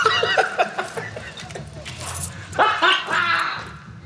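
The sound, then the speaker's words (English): A van's car alarm sounds off with loud, repeated dog-like barks and yips in quick bursts, pausing briefly before a second stronger volley of barking near the end. “I spent my life savings turning my van into a dog. Hi, Petey. The alarm alone cost me $200.”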